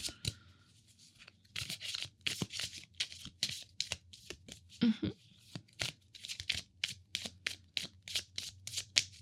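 A deck of cards being shuffled, with repeated quick riffling bursts and sharp flicks in an irregular rhythm, fairly crisp and clear with no talking.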